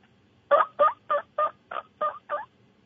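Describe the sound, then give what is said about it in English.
A person imitates a turkey hen's yelping call with their voice alone, without a game call, over the phone: seven short, raspy notes in a steady, evenly spaced series, moderately loud, with no other talking. “I would definitely just go on YouTube and maybe search turkey sound. The hen, it's more, I don't know how this is going to come through on the phone here.”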